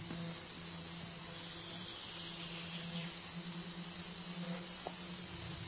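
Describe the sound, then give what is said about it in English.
A steady, dense chorus of grasshoppers forms a continuous high-pitched buzzing hiss, unbroken for the whole stretch, with a faint low hum underneath and no voices. “Become aware of the concert of the grasshoppers.”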